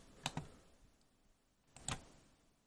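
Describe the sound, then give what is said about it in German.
A few quiet, sharp clicks from a computer keyboard and mouse, arriving in two quick pairs with a pause between them, otherwise silent. “Das Klicken hat man jetzt gehört, ne?”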